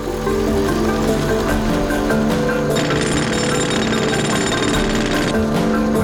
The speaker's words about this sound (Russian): Либерман, глава управляющей компании, привез буровые машины.